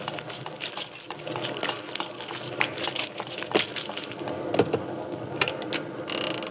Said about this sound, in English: Good Lord, it's pelting with rain. Yeah, let's make a dash for it.